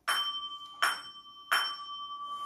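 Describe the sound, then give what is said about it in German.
Bells ring out in three clear strikes about three-quarters of a second apart, each bright metallic tone ringing on and overlapping the next, with the sound sustaining after the last strike. No one speaks. “Da erklang ein lautes Glockengeläut.”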